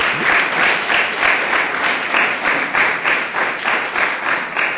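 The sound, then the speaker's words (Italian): An audience at a book presentation applauds steadily, many hands clapping in a dense, continuous patter that stays loud and even throughout with no voices standing out. “Un applauso.”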